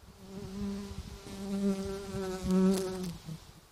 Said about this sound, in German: Ja, das war nämlich mein Problem, wenn man mit der Nase da hergeht, dann schwirren da Bienen und Zeug und Sachen um den Kopf herum. Ich habe ja das nicht so gern eigentlich. Da ist es gerade eins.